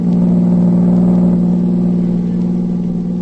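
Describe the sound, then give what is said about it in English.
A car engine hums steadily with a strong low drone and a faint rise in pitch as the car drives to General Tibbage's headquarters in the morning, loud and continuous throughout, with no voices. “The next morning, Agent B-9 and his assistant, Rita Drake, drove to General Tibbage's headquarters.”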